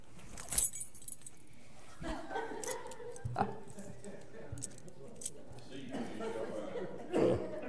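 The keys to a pickup truck jangle and clink in short bursts amid rustling of clothing as someone searches through many pockets, with a sharp metallic rattle near the start and more shuffling toward the end.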